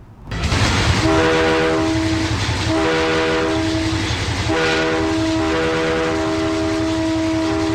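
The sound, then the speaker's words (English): The James E. Straits Fair train rumbles loudly as it pulls into Hamburg, its horn sounding in three long, steady blasts over the heavy clatter and roar of the cars rolling along the track. “Straits Fair train pulled into Hamburg today, signaling we are just 1 week away from the start of the county fair.”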